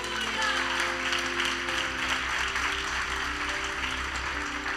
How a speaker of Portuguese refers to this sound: Aleluia, pode aplaudir o Senhor?